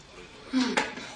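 dishes being washed

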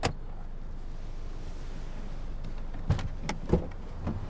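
car door opening

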